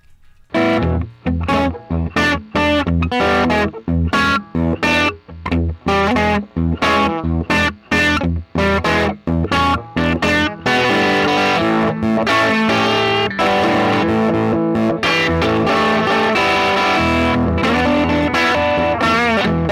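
Electric guitar with a gritty, effected tone, played with a two-finger picking technique in short rhythmic bursts separated by brief gaps, then settling into a continuous ringing passage. No one speaks.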